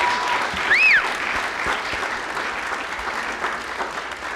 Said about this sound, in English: how about another round of applause for them? All right.